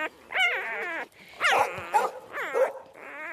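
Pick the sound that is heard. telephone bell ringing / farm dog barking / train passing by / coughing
farm dog barking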